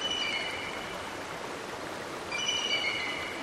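rushing river water

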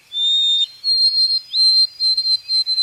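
white-throated sparrow whistled song

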